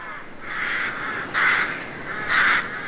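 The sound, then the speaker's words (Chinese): A black crow caws three times, harsh and raspy: one drawn-out call, then two shorter, louder caws at an uneven pace. No voices, just a faint background hiss. “他们啊啊的叫声是话俾人知道死神即将来临，所以乌鸦是唔吉祥的代表。”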